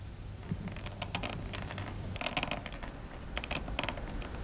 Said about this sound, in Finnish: Tässä syntyi nyt samalla tuo rapiseva ääni, mikä paperia vasten rapisi, niin siitä syntyi kirjoitus, kalligrafinen teksti.